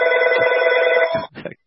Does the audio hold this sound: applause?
no